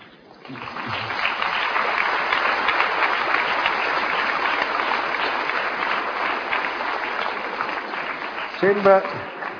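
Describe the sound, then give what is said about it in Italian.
A large audience applauds steadily for about nine seconds after the word 'telefonini' (mobile phones) is said, a dense, even clatter of clapping, with a single voice briefly breaking through near the end. “Sembra che uno lo faccia apposta, perché si piglia sempre l'applauso quando si dice telefonini.”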